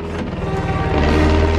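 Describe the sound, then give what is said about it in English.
A low-flying propeller plane towing a banner drones overhead toward a beach party in the afternoon, its engine a steady, throbbing low hum that swells slightly as it passes, with no voices present. “Walter looks up and spots the plane.”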